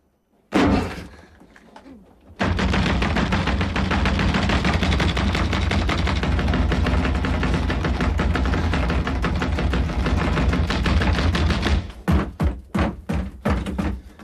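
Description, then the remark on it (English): A man's fists hammer loudly on a bathroom door while his feet stamp heavily in a corridor, a dense nonstop barrage lasting several seconds, then breaking into a few separate thuds before stopping. No one speaks. “Warrener stops pounding on the door and stamping.”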